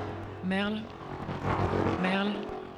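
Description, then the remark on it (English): A scooter engine whines in two short revving bursts over a steady fan-like hum, the motor noise swelling and growing louder toward the end. “Ventilation et scooter croissant.”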